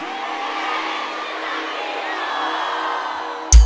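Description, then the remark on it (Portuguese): A large crowd in Teresina, Brazil applauds and cheers for the truck drivers of Brazil in a steady, dense roar that fills the whole stretch, ending with a brief loud thump. “Teresina, levanta a mão e dá uma salva de palmas para todos os caminhoneiros do nosso Brasil.”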